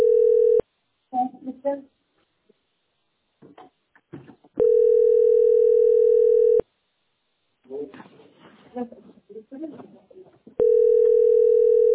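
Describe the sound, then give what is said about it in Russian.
A telephone ringback tone, heard while someone is calling through, repeats in long, steady buzzing pulses separated by pauses, loud, while people talk quietly in the gaps between rings. “А могу мне взять телефон? Вот так. Я дозваниваюсь.”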